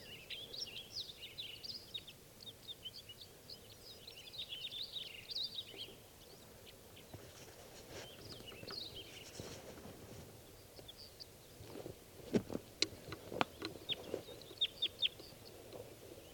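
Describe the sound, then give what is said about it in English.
Birds call repeatedly in quick, high chirping bursts, busiest in the first few seconds and again toward the end, alongside a few sharp knocking clicks over a low background rumble. About three birds, two males and one female, are in spruces near a net setup, calling as if about to take off. “One bird just swooped down, saw the net, and then went back, and that was a female.”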